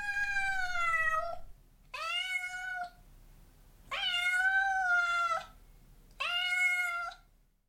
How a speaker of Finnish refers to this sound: Kissako se sitten oli? Niin, se on ilmeisesti asunut siellä viikkokausia. Sen omistaa numeron 12 talonmies.